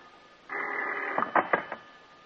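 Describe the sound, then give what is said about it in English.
A telephone bell rings in the dark at 2 o'clock in the morning in one sustained burst of under a second, followed by a few quick clanking strikes as it stops. No one speaks. “It seems like hours later when the phone bell cuts through the darkness like a knife.”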